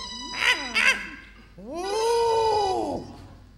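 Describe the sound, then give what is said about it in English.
A small monkey chatters: two quick, high squeaky calls followed by a longer, wavering cry that rises and falls before cutting off. No one speaks. “That's all the monkey says, because he's a monkey.”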